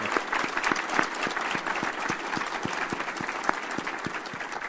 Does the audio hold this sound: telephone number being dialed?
no